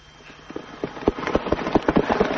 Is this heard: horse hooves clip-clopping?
yes